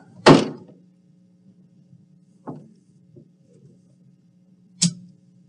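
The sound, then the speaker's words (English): Heavy thuds against a door, a loud blow, then a softer one, and after a pause another hard bang, over a low steady hum with no voices. “Open this door. There's nothing you can do to hold me back anymore.”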